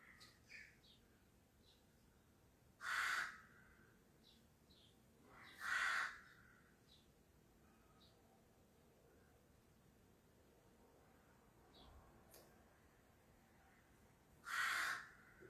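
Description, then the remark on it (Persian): Crows caw loudly in three harsh, separate calls spaced several seconds apart, with a faint hiss and a few softer bird chirps between them. No one speaks. “چه قارقا رو بلندی میکنن این کلاغا.”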